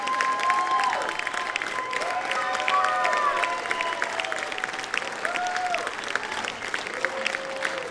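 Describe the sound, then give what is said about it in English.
A crowd at a live music show cheers and applauds steadily, calling for a band's encore: dense clapping with shrill whistles and whoops rising above it, holding at a loud, even level throughout. “If you guys want to hear it, you're going to have to yell.”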